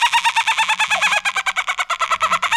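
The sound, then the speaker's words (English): A person on a Zoom call imitates dolphin chatter with a rapid, steady run of high squeaky clicks and chirps, partly muted by Zoom. The sound is fairly loud and continuous for a few seconds, with no talking. “I heard like a tiny muffled dolphin. Like you were holding a dolphin in your hand.”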